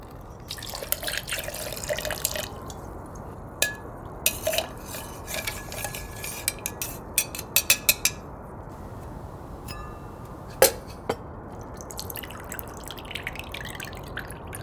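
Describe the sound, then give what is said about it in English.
A Bombay Gimlet trickles and splashes into a glass, with scattered sharp clinks of glassware over a steady background hiss. Nobody speaks. “Pour another.”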